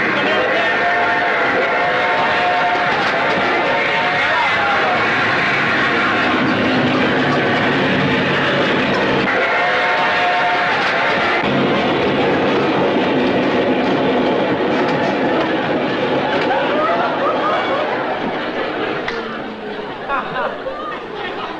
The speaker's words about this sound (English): Wait a minute. Here comes another train the other way. Coming the other way now.